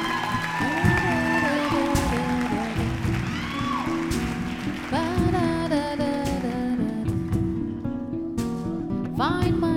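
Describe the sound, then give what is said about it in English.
An audience at an Untold Stories storytelling night applauds and cheers steadily for about ten seconds, the dense clapping mixed with loud band music and a few whoops, staying at an even level throughout. “So give her a big round of applause”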